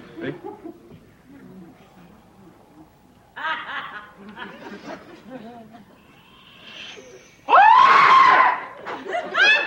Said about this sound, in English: you got one thing right, the screaming. There's going to be a lot of screaming.